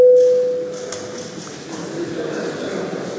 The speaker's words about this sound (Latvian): Lūdzu zvanu.